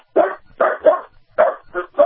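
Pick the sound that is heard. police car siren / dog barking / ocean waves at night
dog barking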